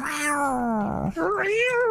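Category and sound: vocal imitation, people imitating cat meows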